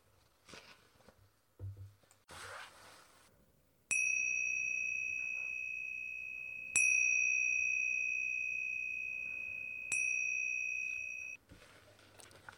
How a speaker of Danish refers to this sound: Først hører du en lille klokkelyd.